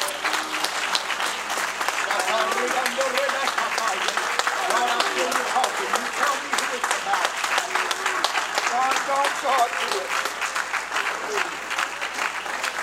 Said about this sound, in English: One more time. Let's give the Lord a good hand clap of praise.